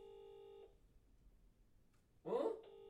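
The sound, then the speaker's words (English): An unanswered phone rings on the line: a steady electronic ringback tone sounds, pauses for over a second, then starts again, with a brief loud rustle or voice just before it resumes. “They're not answering.”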